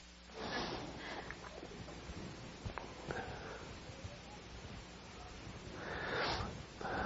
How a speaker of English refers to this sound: I got, oh, let me blow my nose first.